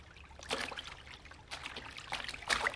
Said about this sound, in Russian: Вода, вода. Тут не широко. Переплывете? Переплывем.